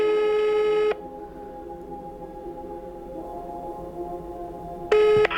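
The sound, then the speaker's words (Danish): A telephone call being placed to a woman: a loud electronic dialing tone, then a quieter steady ringback tone on the line, and another loud tonal beep burst at the end. No one speaks. “Så det er sidste chance, da jeg ringer til en dame”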